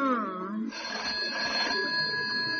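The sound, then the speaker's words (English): A bedside telephone rings with a bright, warbling electronic tone, repeating steadily, following a brief moment of speech-like sound at the start. “I was roused from a troubled slumber by the bedside phone warbling its familiar signature tune.”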